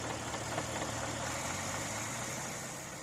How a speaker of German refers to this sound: 4 Jahre, diverse Rückschläge und 2 Versuchsmotoren später ist es endlich soweit. Im Februar 1897 läuft der Motor zuverlässig.